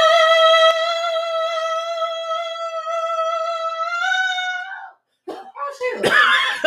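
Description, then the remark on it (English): A person belts one loud, sustained high note for about five seconds, steady with a slight wobble near the end, then it cuts off into short, breathy bursts of voices reacting. “Do the scream.”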